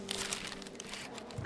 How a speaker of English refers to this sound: Open the letter.